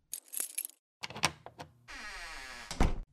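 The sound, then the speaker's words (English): A key rattles and clicks in a locked door's lock with a few sharp metallic clunks, then the door swings open with a long, steady creaking scrape and a final thud, fairly loud. “Oh, the door's locked. Take this key and leave it in the hole.”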